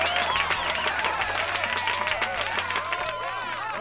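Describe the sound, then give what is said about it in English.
A steady burst of crowd applause, dense and fairly loud, with many hands clapping at once and scattered cheers and whistles rising and falling over it for the full few seconds. “Round of applause for everybody.”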